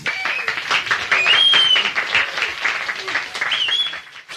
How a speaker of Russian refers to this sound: Бурные продолжительные аплодисменты.